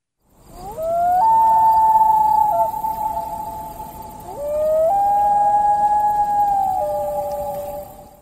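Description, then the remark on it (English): Two long, eerie wails of a common loon, a bird returning to northern Wisconsin for its breeding season, each sliding up into a sustained mid-pitched tone that steps between notes before fading, with a short pause between them and no talking. “That's the common loon, which migrates north this time of year for its breeding season.”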